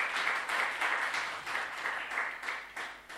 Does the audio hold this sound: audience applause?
yes